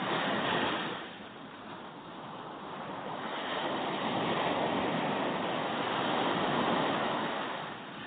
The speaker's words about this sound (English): You may be by the ocean, or you may be listening to a recording of ocean waves such as this.